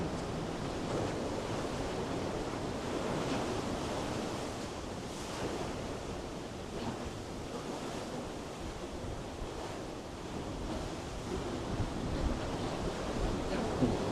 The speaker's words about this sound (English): Now you're looking at the Pacific Ocean through this natural arch.